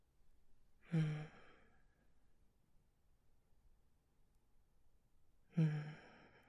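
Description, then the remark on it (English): Two soft breaths about four and a half seconds apart, each a gentle sighing exhale against near silence, with no talking. “Just let my breathing lightly hit the back of your head as I caress you and spoon you and hold you close.”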